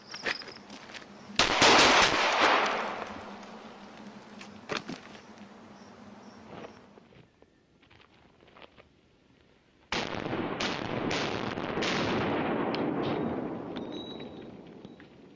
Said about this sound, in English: The key concept is to do it non-pause shooting. It can't be bang, bang, bang, bang, bang, bang, bang, bang. It has to be boom, like this. Just one continuous motion. And we'll demonstrate that live fire.